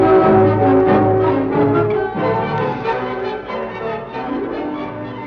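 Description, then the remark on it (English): A gong rings out loud, its rich, shimmering tones swelling and lingering for several seconds, slowly fading with no voices over it. “Oh, sound gong.”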